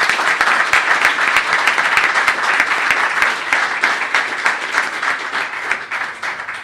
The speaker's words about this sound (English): I hope I haven't left anyone else, but I'd like you to give them all a round of applause.